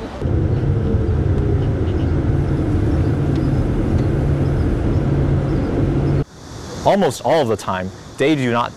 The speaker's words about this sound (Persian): اتومبیل ولوو به صورت خودکار با کمک رادار متحرک روی سقفش حرکت می‌کند، راهنما می‌زند، می‌پیچد، سرعت می‌گیرد و ترمز می‌کند. با این حال در بعضی مواقع راننده کمکی نیز دخالت می کند.